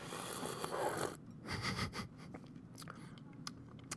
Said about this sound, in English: Okay, I'm going to do a slurp for all the slurper fans out there.